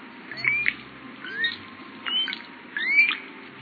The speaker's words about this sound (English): Common ravens call and squabble from the branches of scraggly pines.